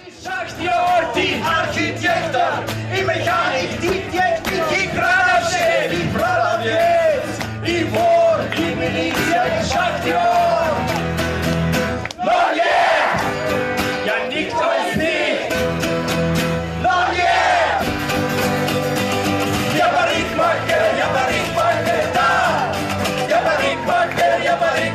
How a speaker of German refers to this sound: Viele kennen den Text auswendig, jubeln und singen mit.